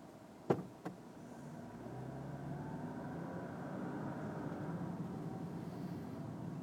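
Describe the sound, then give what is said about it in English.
Two sharp clicks, then a steady low rumble of cars driving past and turning, a continuous road hum with no voices. “Oh, wait, no, they're still letting cars through.”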